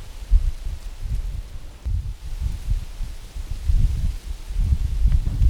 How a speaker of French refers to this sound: Hier, il y avait un peu de vent. Ah, le bruit du vent dans les feuilles des arbres. On l'aime tous, non ?